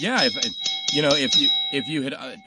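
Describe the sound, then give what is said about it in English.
A spare 'road' cowbell, one once had in Alabama, rings with a sustained metallic tone that carries steadily beneath a person talking, fairly loud throughout. “I just happened to have a spare cowbell here. That was the road cowbell.”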